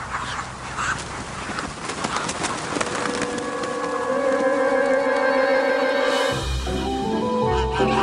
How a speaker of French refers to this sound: J'adore ce bruit d'ailes. C'est les magrets qui sont en train de se développer.